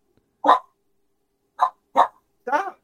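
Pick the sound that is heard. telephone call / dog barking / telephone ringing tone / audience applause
dog barking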